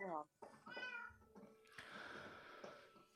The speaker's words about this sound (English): Okay, you're going to dive down there into the cat land. All right, here come the cats.